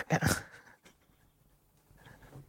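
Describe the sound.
A person imitates a dog's growl with a short, rough, breathy burst, then trails off into a quieter, softer growling noise near the end.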